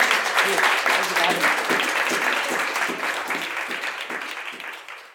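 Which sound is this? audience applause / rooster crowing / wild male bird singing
audience applause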